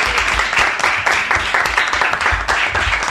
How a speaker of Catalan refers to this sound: Molt bon dia des de l'estadi de l'Albert Canonge Cullell, on és a punt de començar, d'aquí un minut i mig ho farà el gran partit, aplaudiment sisplau, és entre el Barça i el Bèstic.